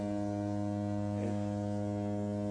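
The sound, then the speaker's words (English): A low, steady foghorn blast drones on without a break, a deep buzzy tone held at an even, moderate level with no voices. “Is that a foghorn? Am I hearing a foghorn?”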